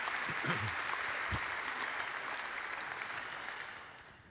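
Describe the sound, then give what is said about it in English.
An audience applauds steadily to encourage an 8-year-old boy called to the front, a dense wash of many hands clapping that holds for several seconds before gradually tapering off, with a faint voice briefly audible near the start. “Let's encourage him this morning. Just give him a round of applause.”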